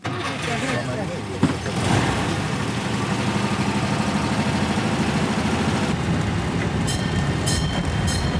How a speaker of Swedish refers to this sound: Så, men vi börjar med tågturen och vi kommer att köra längs huvudgatan här på Norrbyskär.